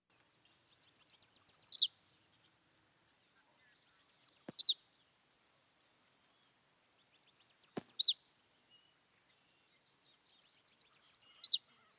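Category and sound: bird, yellow warbler song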